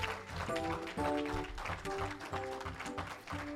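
A crowd claps steadily together while sustained organ-like chords and a thumping beat carry on underneath, the clapping forming a dense, loud wash throughout.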